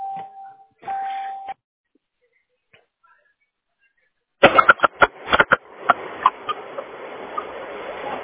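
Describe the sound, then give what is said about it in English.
A phone rings with two short electronic tone bursts, followed after a pause by clattering and rustling noises as if the handset is being handled. “Oh, hold on, my phone.”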